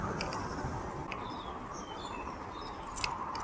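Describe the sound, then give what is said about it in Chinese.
Faint, scattered chirps and short whistled calls of birds singing, nearly buried under a steady, loud hiss of rain falling outdoors on a cool, breezy day. No one speaks. “我听到小鸟的叫声了，鸟儿们在唱歌。”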